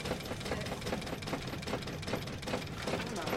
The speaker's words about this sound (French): Ok, j'allume le moteur. Moteur allumé.